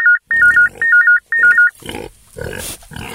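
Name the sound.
pig grunting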